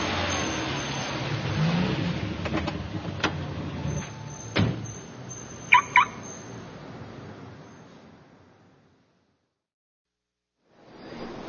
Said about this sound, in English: What is this place? It is a parking garage. People come here to park their cars.